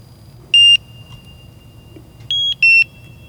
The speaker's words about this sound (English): So as the filters change, you'll hear a little switch on the XRF. And then after the XRF is done sampling, it will make several beeps to let you know that it's safe to open the lead tabs.